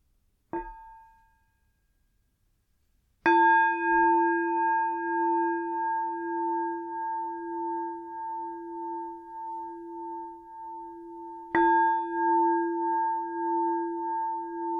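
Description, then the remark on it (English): A meditation bell is struck three times at the start of a guided meditation on patience: a soft, short first tap, then two full strikes whose rich, wavering tones ring on and overlap, clear with no voices. “I'm going to start with three sounds of the bell and the usual settling in introduction.”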